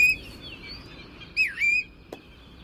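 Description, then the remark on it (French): A bird gives a sharp whistled alarm call, a sustained high note with a quick swooping dip in the middle, clear with a brief click near the end and no talking. “C'est pas fini parce que ce qu'on vient d'entendre, c'est son cri pour dire attention les gars, il se passe un truc, mais il y a également le chant.”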